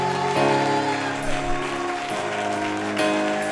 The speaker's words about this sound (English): Now here's what I need somebody to do. If God's ever done a miracle for you, would you just testify by clapping your hands and lifting your voice?